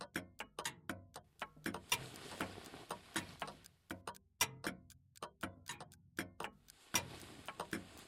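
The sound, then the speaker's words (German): Many clocks hanging and standing throughout an apartment tick at once, their overlapping, unsynchronized clicks forming a dense, uneven patter, each beat sharp. “Überall in der Wohnung hängen und stehen Uhren.”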